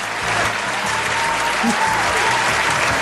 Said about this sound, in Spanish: Pues, oye, a mí me ha gustado el tema. Vamos a aplaudir un poco, vamos a aplaudir.